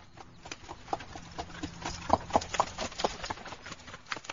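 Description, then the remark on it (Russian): Horse hooves clip-clop in a steady, uneven rhythm of sharp knocks, with the strongest strikes bunched in the middle over a faint background hiss; the good horse of Koschei the Deathless stumbles as he rides home in the evening. “К вечеру он домой ворочается, под ним добрый конь спотыкается.”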